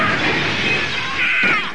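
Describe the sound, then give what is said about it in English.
A truck crushing and collapsing in on itself after being magnetically pulled backwards into a satellite: a loud, continuous grinding and crunching of metal with harsh scraping and creaking, swelling briefly near the end, and no voices. “The truck is collapsing in on me. It's like being in a garbage compactor.”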